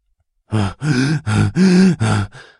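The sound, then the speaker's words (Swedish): A voice imitates the heavy, out-of-breath panting of a woman thundering down a corridor: five loud, voiced breaths in quick rhythm, with a short fading breath at the end and no words. “Flåsade Sheila medan hon dundrade genom korridoren.”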